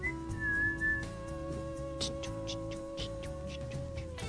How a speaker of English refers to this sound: Okay, you know what? Whistling's not good